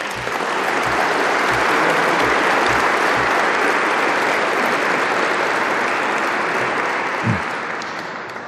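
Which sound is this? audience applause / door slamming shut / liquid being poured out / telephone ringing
audience applause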